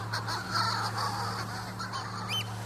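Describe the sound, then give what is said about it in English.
Harsh, cackling seabird cries repeat in quick bursts, rising into wailing, scream-like calls over a steady low hum, with no voices; seabirds flying in circles around an island at night, calling to their mates. “And that's what that incredible cackling, screaming, banshee-like sound is.”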